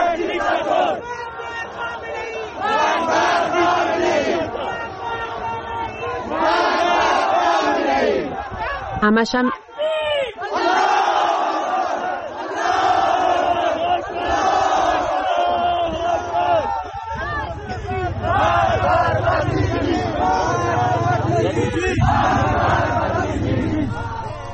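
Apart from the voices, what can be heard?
protest crowd chanting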